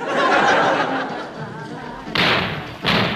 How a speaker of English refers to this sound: Yes, listeners, those mysterious explosions were the first of many.